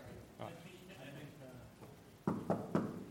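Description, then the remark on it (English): Three quick, crisp knocks on a door land loud in an even rhythm near the end, after a stretch of softer, murmuring sounds, as a man demonstrates door knocking. “3 to 5 crisp knocks. Avoid all the silly variations.”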